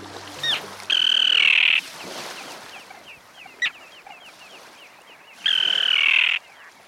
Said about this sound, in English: For example, consider the terns. The common terns you're hearing have long pointed bills they use to catch small fish.